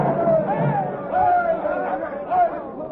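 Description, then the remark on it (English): A dense crowd pours over a town square, murmuring and chattering steadily, many overlapping voices blending into a continuous, fairly loud hubbub with occasional swells, no single speaker standing out. “He's down, but the people still pour over the square.”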